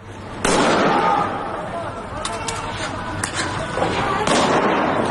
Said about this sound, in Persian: تصاویر بسیاری از شلیک مستقیم نیروهای امنیتی، نظامی و انتظامی به مردم معترض منتشر شده. چه اینجا در تهران اطراف دانشگاه شریف و چه اینجا در خیابان‌های سنندج.